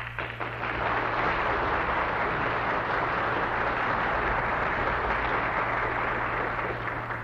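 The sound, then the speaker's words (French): An audience applauds in a dense, steady wash of clapping that holds at full strength for about seven seconds, with no voices heard over it. “Je suis content de ces applaudissements, car vous les entendrez tous deux dans quelques minutes.”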